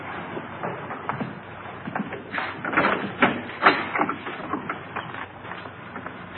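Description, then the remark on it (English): A door is opened with a run of rattling, clicking mechanical knocks and scrapes, moderately loud, busiest in the middle and easing off toward the end. “Boy, I've never seen so many doors.”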